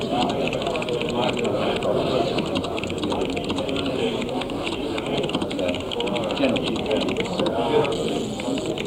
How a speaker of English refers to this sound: Yes, it's got quite a nice click and feel to it. Yeah, well, it is a proper IBM keyboard.